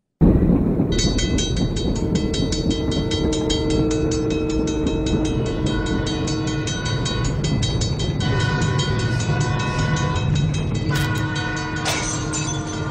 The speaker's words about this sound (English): Does he have a train sound effect and then a train wreck button on his digital